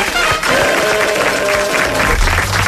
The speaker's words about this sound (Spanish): Sí. Aplausos.